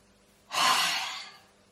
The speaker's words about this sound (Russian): И завершающий подход. Делаем глубокий вдох.